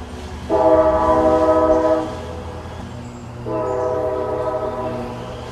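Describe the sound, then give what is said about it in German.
An old railway train sounds its horn in two long, steady blasts, the second slightly quieter, over a continuous low rumble of the train in motion. “Das ist dieses ganz klassische alte Eisenbahngeräusch.”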